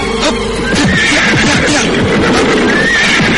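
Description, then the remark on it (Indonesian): A loud horse neigh from a horse pulling a delman (horse-drawn cart) that has suddenly stopped and will not move: a shrill, quavering whinny that stretches across a few seconds with no voices underneath. “Kuda-kuda itu berhenti tiba-tiba.”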